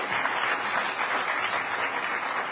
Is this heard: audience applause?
yes